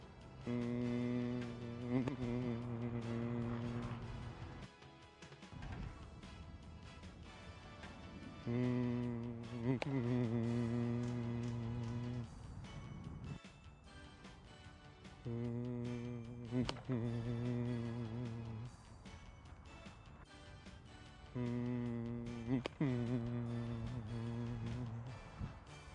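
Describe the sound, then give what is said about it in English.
A baseball hitter's steady, level vocal hum, held at one pitch through the swing in a hitting drill, in four long stretches of a few seconds each, with brief breaks and faint rustling between them, resembling a buzzing insect drone. “So we're going to try to keep tension out of our swing and keep our hum on one particular level here.”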